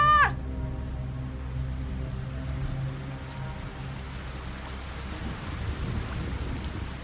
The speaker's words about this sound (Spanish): La lluvia comenzó a caer, empapando a las tres mujeres y llenando de lodo el suelo.